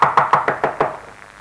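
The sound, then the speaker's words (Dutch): A quick run of about six sharp, evenly spaced knocks on a small wooden door, knocking to check whether anyone is inside, followed by a brief fading ring with no voices. “Dit deurtje moeten we hebben. Oh. Sound officer. Even kijken of er niemand is.”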